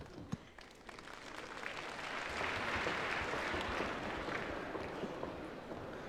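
An audience at a xiangsheng (crosstalk comedy) show applauds steadily as the piece "Xue Tiaowu" by Kong Yunlong and Feng Kuoyang begins, a dense wash of many hands clapping that swells louder in the middle and then holds at a slightly lower level. No one speaks over it.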